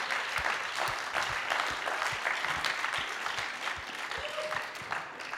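An audience claps steadily for several seconds, a dense, even patter of many hands with no voices, holding a fairly constant level throughout.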